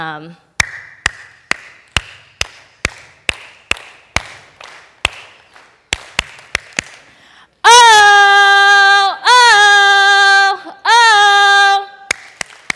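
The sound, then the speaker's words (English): A sharp, rhythmic clapping pattern repeats for several seconds, then gives way to three loud, sustained group shouts before a few final claps return. “So if you recognize this clapping pattern and what I'm about to do, I'd like you to join in.”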